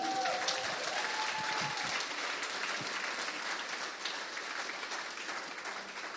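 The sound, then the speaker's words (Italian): An audience claps for the Holy Spirit, a steady, dense, even wash of many hands at a fairly constant loudness for about six seconds, with faint voices and a brief tonal whoop or cheer near the start. “Puoi fare un applauso a lui?”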